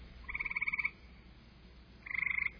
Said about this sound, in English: No. The frogs seem back to normal.